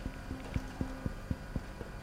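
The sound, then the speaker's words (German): Quick, evenly spaced footsteps clang on the metal steps up to an airplane gangway, about nine hollow, slightly ringing steps in two seconds, moderately loud over a low background hum. “Du sprichst und atmest noch ins Telefon, als deine Schritte schon auf den Metallstufen zur Gangway hallen.”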